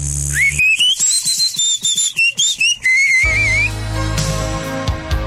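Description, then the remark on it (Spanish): A loud, shrill whistle from a novelty whistling keychain rises sharply and holds a wavering high pitch for about three seconds, with rapid warbling trills, then gives way to a noisy, rumbling background. “Radio Marketing del 98.5 introduce al mercado lo que usted había estado esperando toda su vida: el nuevo llavero chiflador.”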